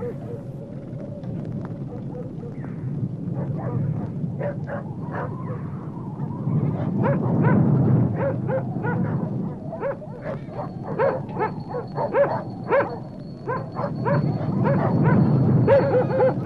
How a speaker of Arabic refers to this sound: إذن ماذا حصل للكلاب؟ أتحرشت بها أنت؟ لا، لا أدري ما أصابها، سألحق بها وأرى.